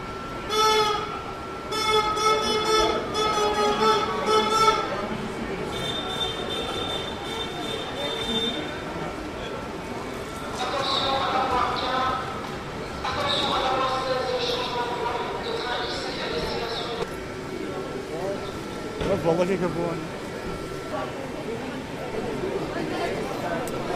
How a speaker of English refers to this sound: We are changing trains. We're getting off the Eurostar and we will very shortly be getting onto the specially chartered train.